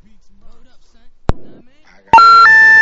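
A loud electronic telephone ring, a caller phoning in to a live on-air show, starts abruptly near the end, a steady buzzing tone that steps up in pitch, preceded by a sharp click and faint background murmur.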